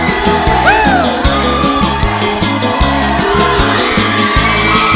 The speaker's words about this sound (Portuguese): Olha, vocês são fantásticos. Esse grito tá lindo.